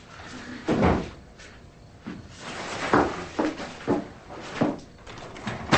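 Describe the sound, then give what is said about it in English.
A woman shoves a table back into place with a series of scraping pushes and dull wooden knocks, each burst fairly loud and irregularly spaced over several seconds, with no voices. “Sally steadies herself, then pushes a table back into place before answering the door.”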